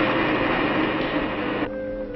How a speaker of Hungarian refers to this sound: Ott a villamos.